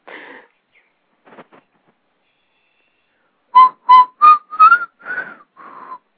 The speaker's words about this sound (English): I was trying to whistle that